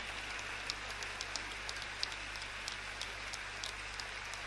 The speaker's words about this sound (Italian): Intanto il pubblico continua ad applaudire, accompagnato anche dai professori d'orchestra, gli archi